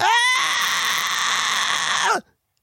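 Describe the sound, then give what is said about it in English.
A person imitates the pointing-and-screaming scream from the end of The Body Snatchers, a 1970s horror movie: one loud, sustained, piercing shriek lasting about two seconds, starting with a rising pitch and cutting off abruptly into silence. “Oh, wait, what's the name of that movie at the end where the guy's like pointing at the woman and screaming? It's some horror movie from the 70s.”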